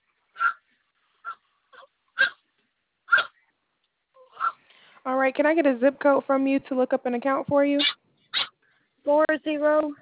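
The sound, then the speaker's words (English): A dog barks at its owner during a customer service phone call: several short, sharp barks spaced a second or so apart, then a person starts talking while the dog goes quiet, with one more bark cutting in near the end. “stop barking at me.”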